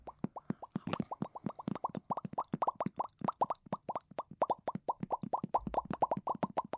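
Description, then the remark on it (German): Rapid, steady series of wet mouth pops made as a 'carp' jaw-loosening exercise: dozens of short smacking plops in quick rhythm with a hollow, mid-pitched tone, like a fish opening and closing its mouth, with no talking. “Wir machen den Karpfen.”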